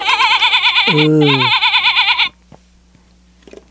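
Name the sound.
sheep bleating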